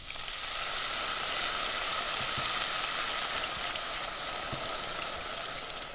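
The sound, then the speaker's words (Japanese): Steady, continuous sizzling of onion, celery, garlic and bacon being stir-fried in a pan with a browned roux for a stew, a dense hiss held at an even level throughout, with a few faint clicks of stirring and no voices. “ルーが茶色く仕上がったらそこに玉ねぎ、セロリ、ニンニク、ベーコンを入れて全体を炒め合わせてください。”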